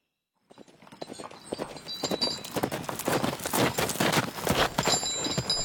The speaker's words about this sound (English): have you come to join me in my solitary horse ride?